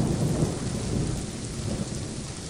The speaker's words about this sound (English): all I know is that I'm sitting by the window and I'm looking out on the garden, and it's raining.